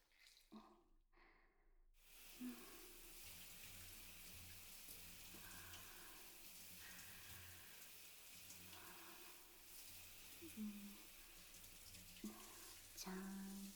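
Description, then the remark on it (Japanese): Water runs steadily and splashes, like a shower or tap rinsing soap suds off a person's body while bathing, with a few soft knocks and trickles after a brief quiet start. No one speaks. “ずっと泡だらけだと滑って危ないし。一回流すね。”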